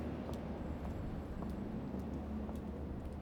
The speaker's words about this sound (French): Les pigeons trottinent dans la ville et les voitures font un bruit insupportable avec leurs moteurs.